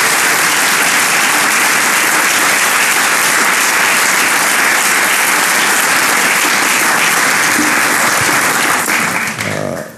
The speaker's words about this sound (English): Please rise and so we can give you a big round of applause.